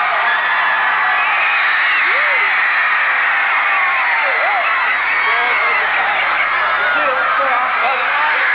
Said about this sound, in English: Hysteria has really taken hold of the crowd now. They've seen their idols.